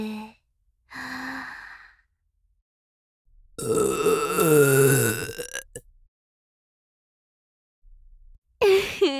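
A loud, drawn-out burp rumbles for about two seconds, recorded very close up, with short breathy sighs before it and a brief vocal sound at the end.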